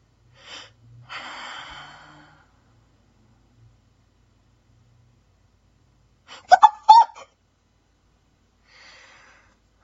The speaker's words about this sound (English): I know you're here, asshole. I heard you breathing. Come on out.